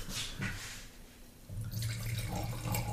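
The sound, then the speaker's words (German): Schilcher wine pours steadily into a glass in a farm shop, a gurgling stream that grows fuller and louder partway through, with no voices. “Schon wie er das einschenkt. Sehr elegant.”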